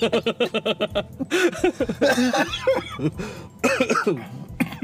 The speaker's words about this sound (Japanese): ごめん。 いや大丈夫。俺も咳してしまったわけ。